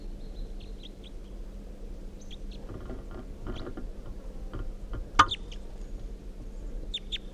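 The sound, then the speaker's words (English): Scattered short, high chirping calls of a wild male red crossbill with a right-crossing bill, perched on top of a net above decoys, a few calls in quick succession, over a steady low hum, with one sharp click partway through. “So recording captured the bird. It's a red male with a right crossing bill.”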